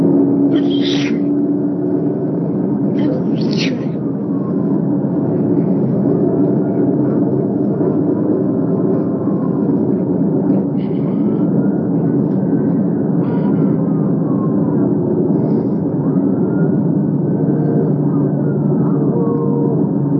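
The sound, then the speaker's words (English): A steady, loud low rumble of a trooper's car driving, recorded by its police dash camera while following a driver who at first doesn't stop. Constant road and engine noise, with two brief high-pitched bursts near the start. “As dash camera video shows, at first, the driver doesn't stop for the trooper.”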